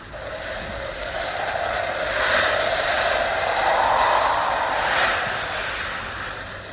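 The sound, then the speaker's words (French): Wind howls in a continuous rushing roar, its moaning tone swelling and falling in slow waves, loudest around the middle, with no voices. “Oh, il y a beaucoup de vent. Écoutez-le chanter.”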